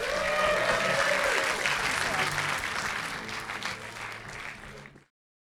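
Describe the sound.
Audience applause for a contestant leaving the stage after a share-or-steal Prisoner's Dilemma game, a dense steady patter of many hands clapping loudly, with a few faint voices or cheers mixed in, tapering slightly before ending abruptly after about five seconds.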